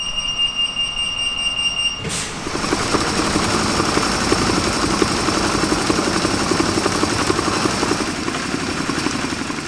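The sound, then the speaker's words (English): A mail-in ballot sorting machine starts after a brief steady electronic alarm tone, then runs loudly and continuously with dense rapid clatter and whirring as ballots come in and are sorted for volunteers to inspect, no voices. “I got to record the sounds of the mail-in ballot sorting machine for listeners who may not think it was cool, but I thought it was.”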